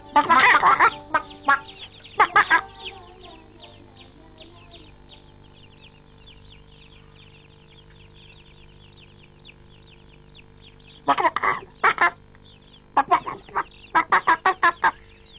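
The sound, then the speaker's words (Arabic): Chickens at a house near a large forest cluck in short, sharp bursts near the start and again toward the end, with a quieter stretch between, set against faint ambient background noise and no voices. “كان بيت عمي قرب هذه الغابة، وكانت الثعالب تأتي كل يوم إلى البيت وتخطف دجاجة.”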